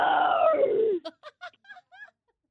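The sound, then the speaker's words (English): A person imitates an aggressive zombie for Halloween, voicing a drawn-out, falling deep guttural growl, followed by a handful of short breathy bursts of laughter, otherwise quiet. “No, that was an aggressive zombie.”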